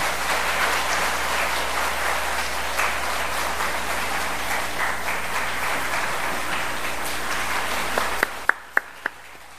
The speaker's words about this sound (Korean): 여러분 경례 박수 주시기 바랍니다.